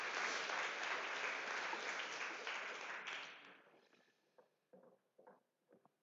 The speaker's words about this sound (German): Applaus für die fünf, dass sie sich getraut haben, so spontan nach vorne zu kommen.